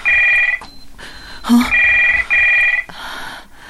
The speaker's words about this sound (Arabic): ها هو صوت الهاتف.